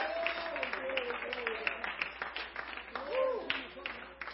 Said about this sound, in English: Come on, if you want to give the Lord a hand clap, I want you to worship Him. Hallelujah.